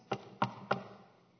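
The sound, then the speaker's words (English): Three firm knocks on a door, evenly spaced about a third of a second apart, fairly loud, with a short fading resonance after the last one. “She knocks again and again.”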